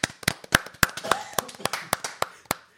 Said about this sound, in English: We should have a round of applause for that. I know.